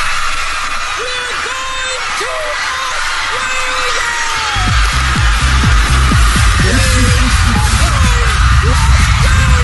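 A studio audience screams and whoops in excitement as a trip to Australia is announced: a dense, loud wall of many overlapping voices that grows even louder partway through and keeps going without a break.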